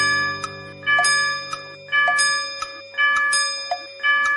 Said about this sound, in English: The monkey went up the clock. The clock struck five.